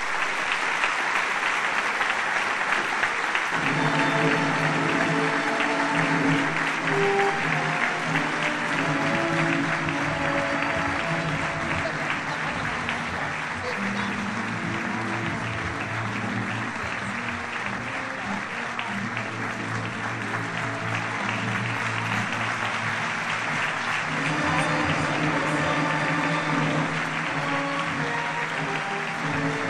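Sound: audience applause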